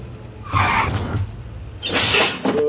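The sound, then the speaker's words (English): A door opens with two rough, breathy bursts of noise about a second apart, moderately loud, over a steady low hum with no one talking. “I didn't unlock that door.”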